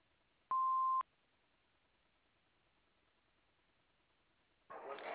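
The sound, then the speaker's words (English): A single answering machine beep, a steady half-second tone over faint telephone-line hiss, followed by a long quiet pause and then a sudden burst of static at the end. “Please leave your name and phone number after the beep.”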